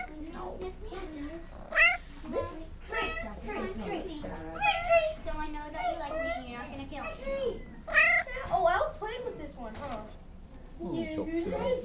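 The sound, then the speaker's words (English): Several cats meow repeatedly in high, wavering cries, overlapping, while a child's voice chatters alongside them. “now we're with the kitties”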